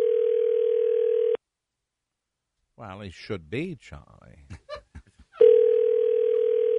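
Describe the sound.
A steady, mid-pitched telephone tone sounds twice as a phone number is dialed for a call, each tone lasting over a second and fairly loud, with a short stretch of silence and a man's brief speech between them.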